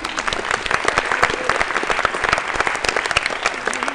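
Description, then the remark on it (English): A crowd applauds a woman steadily, many hands clapping in a dense, continuous patter that stays loud and even for several seconds with no voices on top. “Give her a round of applause, will you?”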